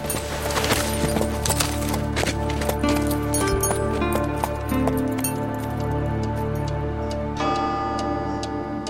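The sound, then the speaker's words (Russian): Steady, rhythmic clip-clop of the hooves of an exhausted horse being ridden into Kislovodsk at sunset, fairly prominent, running over a sustained bed of tonal music-like sound with no talking. “Уже солнце садилось, когда я подъехал к Кисловодску, измученный, на измученной лошади.”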